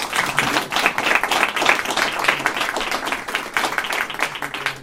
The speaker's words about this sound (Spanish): Así que, de verdad, muchas gracias a los tres y me gustaría pediros un aplauso, tanto para ellos como para todos los que estáis aquí esta tarde.